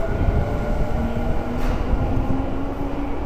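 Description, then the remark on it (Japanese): A train rumbles steadily, a dense low roar with faint metallic whine, as the last train of the day bound for Motomachi-Chukagai pulls into platform 1 at a station; no voices are heard. “1番線に本日の元町中華街行き最終電車が参ります。”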